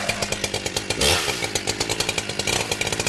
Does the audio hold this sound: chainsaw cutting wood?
yes